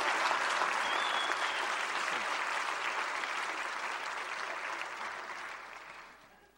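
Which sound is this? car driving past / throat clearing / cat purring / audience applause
audience applause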